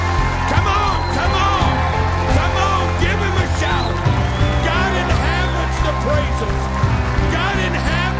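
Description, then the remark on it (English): A church audience claps and shouts praise to the Lord together, a steady, loud wash of many overlapping voices and scattered handclaps over a low continuous hum. “Give the Lord a clap offering. Come on, give him a shout.”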